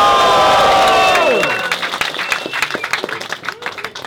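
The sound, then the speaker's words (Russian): A concert crowd cheers and screams loudly in response to the performer's call to make some noise, a shrill whistle-like cry sliding downward in the first second, then the roar thins into scattered clapping and shouts that fade somewhat. “Ну пошумите, если узнали что-то, камон!”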